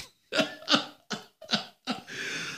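A quick series of five sharp, rhythmic coughs, evenly spaced like a beat, from the intro of a disco record released in Italy and played in discos, followed by a sustained hissing breath. The coughs are fairly loud, with no speech.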